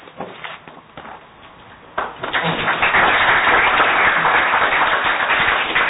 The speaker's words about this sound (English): Well, if you're going to applaud him now, wait till tomorrow when he really takes over.